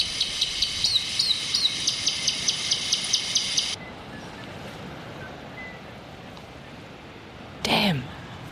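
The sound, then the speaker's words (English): A recorded robin call, played to draw a robin toward a trap baited with mealworms, plays as a rapid, steady series of high chirps for about four seconds, then cuts off, leaving a low steady hiss and a brief rustling burst near the end. “So you're just going to play the call again?”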